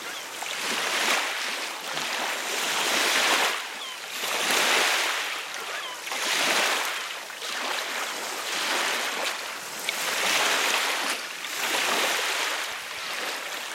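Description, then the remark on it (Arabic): Gentle waves of a calm, quiet sea wash in and recede in a slow, steady rhythm, each soft surge of surf rising and fading every couple of seconds, continuous with no voices. “انظر كم هو هادئ صامت. هنا البحر، هنا، لكنه في أماكن أخرى يغلي غليانا شديدا”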